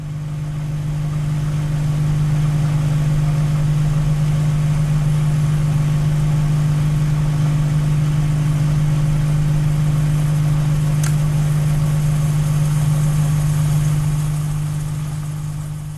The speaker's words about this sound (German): Kristen Roos hat die Mikrowelle eingeschaltet, um eine Tasse Wasser aufzuwärmen.